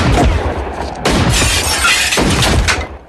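A loud exchange of gunfire between a man in the doorway of a house and police, dense bursts of shots crashing in several waves with what sounds like shattering glass mixed in, and no voices.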